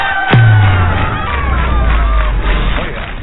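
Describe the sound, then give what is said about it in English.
A crowd of bus people under a large metal frame tent out back, in bad weather, cheers and murmurs in a steady, fairly loud wash of voices, opening with a sharp thump and a deep low rumble that lingers underneath. “Bus people, they're a little subdued tonight.”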